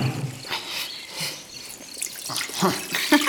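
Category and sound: household object, water poured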